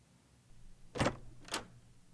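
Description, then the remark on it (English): A door is unlocked and opened: a sharp mechanical clunk followed half a second later by a second crisp click, with no voices. “Yo, come unlock your door.”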